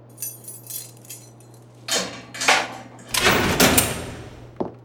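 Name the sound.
door being opened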